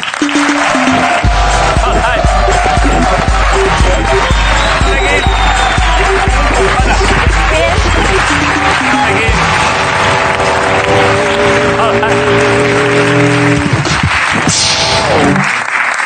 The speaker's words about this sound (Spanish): Estamos encantados hoy en La Resistencia de recibirla, así que pido un aplauso para Daphne King.